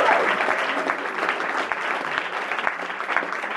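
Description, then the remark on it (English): A crowd applauds steadily at the Brecht Forum's 36th anniversary celebration, many hands clapping in a dense, continuous patter of sharp bright claps at an even loudness, with no voices standing out. “I know it's gonna be a lot of clapping tonight.”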